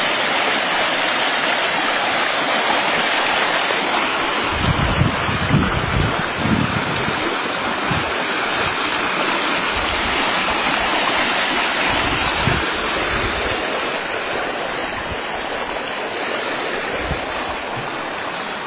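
flowing stream water

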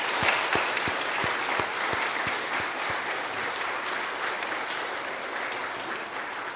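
applause

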